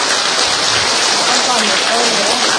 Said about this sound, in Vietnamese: Vỗ tay to lên thưa anh chị em.